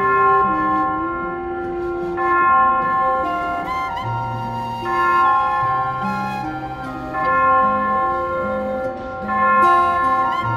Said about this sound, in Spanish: Las campanadas de la iglesia. ¡Son las 5 de la mañana!